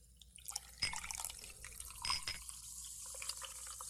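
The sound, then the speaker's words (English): Dandelion and Burdock soft drink from a bottle brought up from the cellar, labelled 1974 vintage, is poured into glasses, a steady trickling hiss broken by a few brighter splashes and drips, with no voices. “Now, to mark the special occasion, I've been down to the cellars and brought up a nice bottle for us to share. Look at that. 1974 vintage. Hold your glasses out, boys.”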